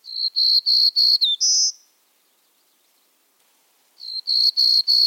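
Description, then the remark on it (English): A black-throated green warbler's buzzy song: a run of quick, evenly spaced high buzzes ending in a longer, slightly higher note, then a short pause before the pattern starts again. Clear, with no talking. “They may form mixed flocks with black-throated green warblers that nest in the eastern U.S. and Canada.”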